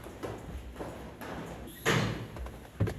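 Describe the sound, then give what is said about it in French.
A garden gate onto the street is opened by a woman in the daytime to let someone in: a sudden scraping rush of sound followed by a short clank, set against quiet outdoor ambience with no talking. “On la suit à travers la grille pour ouvrir à Hervé.”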